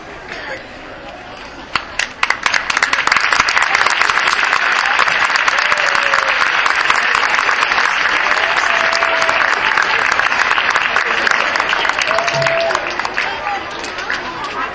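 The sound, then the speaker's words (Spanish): An audience bursts into sustained applause after 14 petitions supporting people with rare diseases and their caregivers are read out. It starts with scattered claps and swells into a dense, loud wall of clapping that holds steady, with faint crowd chatter and a few whoops mixed in. “A ver, ese aplauso no ha sonado lo suficientemente fuerte porque es un aplauso que tiene que llegar a todo el mundo.”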